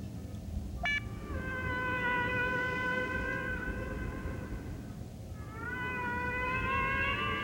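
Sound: whale song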